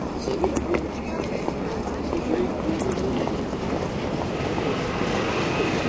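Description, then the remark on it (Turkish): A tram rumbles in to a stop, a steady loud rolling clatter of wheels on rails that fills the whole stretch, with indistinct voices and street bustle mixed underneath. “Yeniden tramvay durağına gideyim bari.”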